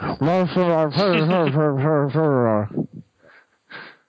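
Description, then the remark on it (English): A voice imitates muffled, tinny, low-quality microphone audio with a few seconds of warbling, garbled vocal sound, followed by several faint breathy noises. “It doesn't have to be that good of a mic, but, you know, you listen to some podcasts and it's like...”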